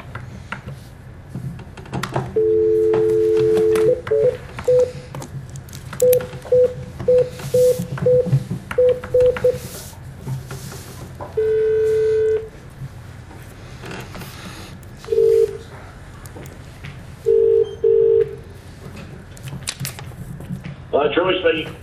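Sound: telephone keypad dialing tones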